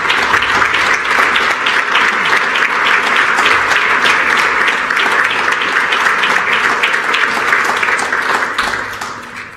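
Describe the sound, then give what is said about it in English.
At a Reserve Bank board meeting, a crowd applauds two retiring board members, many hands clapping steadily in a dense, loud wash of sharp claps that holds for several seconds before starting to taper off at the end. “Thank you, and the applause is very appropriate here”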